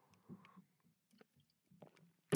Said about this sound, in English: Oh, I need a sip of water. Hang on.